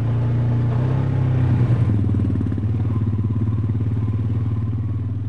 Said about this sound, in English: To show me this environment, Sarah revs up her four-wheel all-terrain vehicle, and I hop on behind. Everybody gets around town this way.